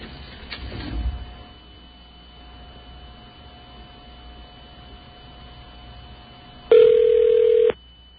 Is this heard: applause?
no